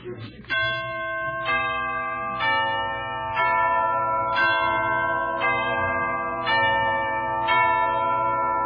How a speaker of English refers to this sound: Entrance of the Knights of the Grail from Wagner's Parsifal. You specialize in bell-like music?